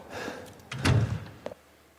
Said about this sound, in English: So let's use an example of Resident Evil, and let's listen to this door sound.